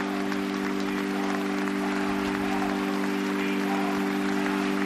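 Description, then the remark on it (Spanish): Sustained applause from a large crowd at a funeral ceremony in Rome that ends with the blessing of Pope Francis, dense and steady throughout, with a constant low hum underneath and no voices rising above the clapping. “Pues con estos aplausos y con la bendición del Papa Francisco ha terminado la ceremonia que hemos podido seguir íntegramente aquí en directo en COPE con el equipo de enviados especiales a Roma”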